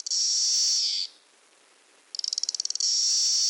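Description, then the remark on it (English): A periodical cicada, Magicicada cassini, gives a loud, high, continuous buzz, falls silent briefly, then returns with a quick series of rhythmic clicks that build back into the steady buzz. No voices. “Now, Magus cicada castanei, this has a series of buzz and clicks.”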